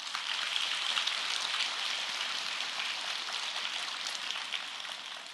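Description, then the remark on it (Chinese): An audience applauds steadily for about five seconds, a dense, even crackle of many hands clapping at once with no voices over it, holding a fairly constant level before easing slightly at the end. “鼓掌的掌声好像不够响嘛。”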